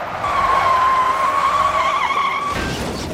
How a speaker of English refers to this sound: Started to lose it, went to the left, went back to the right, skidded, and hit a fence and a tree, hit a telephone pole.